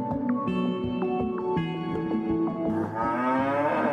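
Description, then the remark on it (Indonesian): Several cows moo in overlapping, drawn-out calls, loud, forming a continuous chorus of lowing with no pauses between voices. “Sapi sangat bermanfaat bagi manusia karena menjadi sumber protein penting.”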